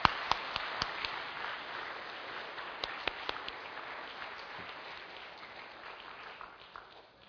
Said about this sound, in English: All right, let's give God a clap of hand, all right? Good job.